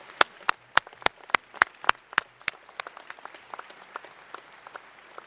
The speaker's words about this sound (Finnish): Varmaan juhlakansana tässä, niin annettaisiko nyt Seinäjokisille ja tämän seudun muille ystäville, jotka tähän on osallistuneet, oikein raikuvat kiitos, aplodit.